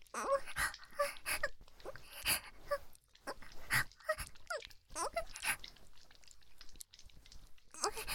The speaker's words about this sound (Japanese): そんな犬みたいにペロペロ舐めてプライドってものがないのかい。